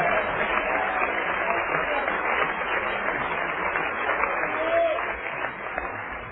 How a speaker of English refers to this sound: Everybody clap your hands and shout yes to the Lord.